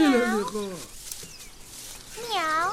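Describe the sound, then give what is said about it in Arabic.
A voice imitates a cat meowing: two drawn-out, rising-and-falling meows, one at the start and another at the end, with a quiet pause between them. Fairly loud. “مياو.”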